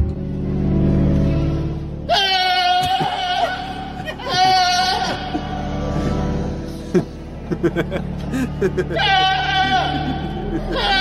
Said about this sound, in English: So I've got Pablo the Goat, who's gone viral for his incredible singing alongside organ music at a cathedral in Britain. Have a listen.